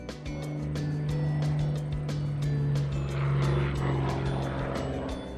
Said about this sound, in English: The airplane is so high! I wonder where it's going.